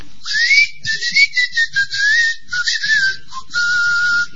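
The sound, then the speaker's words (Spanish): A person whistles in a string of breathy, airy notes that rise and waver, broken by short gaps, ending on a lower sustained tone, with no talking, imitating serpents whistling upward to hold an egg in the air. “Producían un huevo y lo sostenían en el aire emitiendo silbidos. Chiflaban para arriba a la serpiente.”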